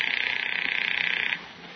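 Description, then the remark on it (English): A telephone rings once with a loud, rapidly trilling electronic bell tone that warbles steadily for just over a second, then cuts off, leaving faint background hum. “It's ringing. Take it.”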